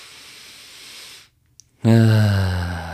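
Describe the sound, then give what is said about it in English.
A long, breathy inhale, a brief pause, then a loud voiced sigh of relief on the exhale. “You know, if I take a deep breath in, you know, I'm aware that I'm breathing.”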